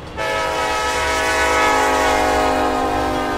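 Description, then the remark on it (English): A loud, sustained train horn blasts without a break, its rich chord of stacked tones holding steady for several seconds over a low rumble of a train passing through the small town of Bremen, Georgia. “That train whistle is something you can't miss during a visit to Bremen.”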